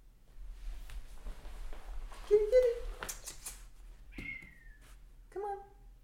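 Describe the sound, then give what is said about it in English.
A cat meows a few times in short, separate calls, some sliding downward in pitch, not loud, over a steady low background hum, as it is being called to come. “So, Kitty, are you gonna come to me today? Kitty, kitty, kitty, kitty, come on.”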